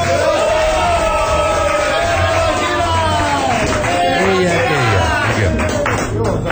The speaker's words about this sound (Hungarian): Egyébként az itt levő tömeget illusztráljuk, hát egy kicsit tomboljunk, tapsoljunk.